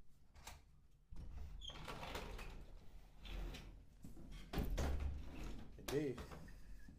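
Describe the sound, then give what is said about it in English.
In Atlanta, a chair is grabbed and dragged around so someone can sit down, with scraping, bumping and rattling knocks over several seconds, and a voice briefly murmurs near the end. “So, let me grab me a chair so I can sit down, because my energy is anxious right now.”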